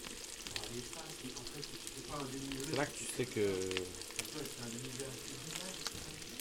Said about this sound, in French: On va créer un petit lac de gras pour mettre nos cordons bleus dedans. On va tenter de les saisir. Faut qu'on envoie à donf là. Là, on passe à la vitesse supérieure. T'entends là comment ça crépite?